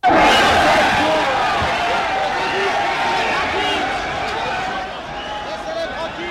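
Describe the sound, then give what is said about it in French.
An angry crowd of butchers howls and shouts insults at members of the Parisian press as they leave, many voices overlapping in a dense, continuous roar that stays loud throughout, with sharper yells rising above the din. “quelque chose comme ces hurlements, on les aurait trouvés dans votre Moyen-Âge, à la puissance 10, non ?”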